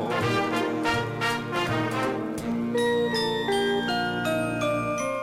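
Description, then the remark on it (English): Bells ring out in a steady, layered peal, bright chiming tones overlapping and sustaining at a fairly loud level, with no voices present. “I hear bells ringing.”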